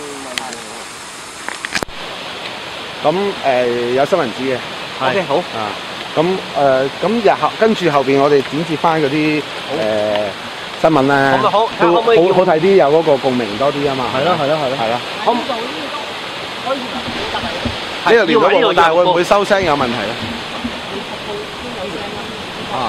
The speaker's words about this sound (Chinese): 啊！又海浪声， 好啊！